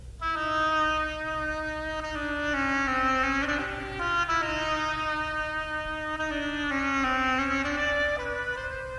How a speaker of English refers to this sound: The duck is an oboe.